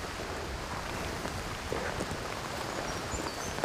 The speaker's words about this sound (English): The rain is getting a little heavier, but nothing like the Irish weather.